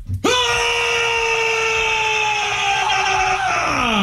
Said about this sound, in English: Okay, don't scream right in the microphone. I don't scream in the microphone. Primal scream and go.